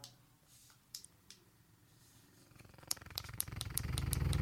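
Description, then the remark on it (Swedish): A few faint clicks, then a low hum from a 15 cm long, hourglass-shaped vibrator with a suction tip at the front starts up and steadily grows louder, purring like a cat with rapid, regular pulsing ticks layered on top. No one speaks. “Den spinner som en katt.”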